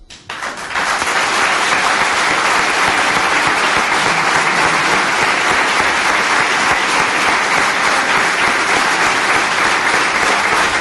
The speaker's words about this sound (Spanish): Recibe los aplausos esta joven talaverana